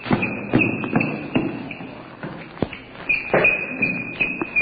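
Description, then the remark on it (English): Quick, uneven footsteps thud and patter, like people running in place, with a faint high-pitched ringing tone lingering underneath. “I think you guys are running in place.”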